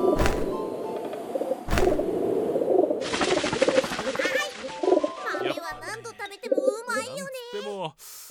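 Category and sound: bird, pigeons cooing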